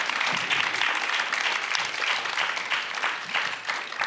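An audience at the Meeting in the Middle 2025 event, recorded live at the University of Memphis, claps for a panel steadily for several seconds, a dense, even wash of many hands with no pauses and no voices standing out.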